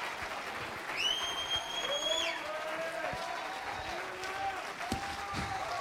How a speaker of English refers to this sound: My God, clap your hands and lift your voice.